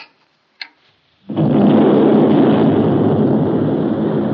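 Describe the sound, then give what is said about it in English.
A massive explosion of 8 tons of dynamite, set off by President Woodrow Wilson pressing a button 4,000 miles away in 1913, destroys the Gamboa Dike on the Panama Canal. It bursts in after a brief click, then a heavy, continuous roar and rumble keeps rolling loudly for several seconds with no voices. “Four 4,000 miles from the scene, President Woodrow Wilson touched a button which set off 8 tons of dynamite, destroying the Gamboa Dike, the last obstruction to navigation from Atlantic to Pacific through the Panama Canal.”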